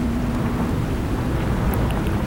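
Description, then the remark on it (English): Shrill wind of a snow blizzard with hurtling drift rushes steadily and loudly for the whole stretch, a dense, unbroken roar with a low rumbling undertone and a faint hum at the start. No one speaks. “The shrill wind fled by.”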